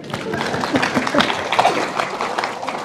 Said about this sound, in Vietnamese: Giỏi quá, cho một tràng pháo tay đi.